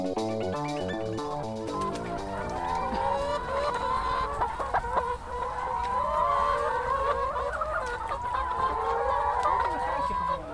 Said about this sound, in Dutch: Alleen dat geluid al, kippen horen we echt bij zo'n boerderij, vind je niet? Nou, ja, weet je, ik heb niet zoveel met kippen. Weet je, al dat gekakel en gedoe, het is een hoop koude drukte, man.